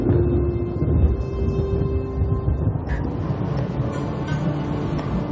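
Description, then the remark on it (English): A deep, continuous rumble of thunder from a thunderstorm on the horizon rolls on for several seconds, heavy in the low end and steady in loudness, with no voices. “Off on the horizon, they rumble. Rolling across the land, they darken the skies to then spark fire in the darkness, letting out an unmistakable roar.”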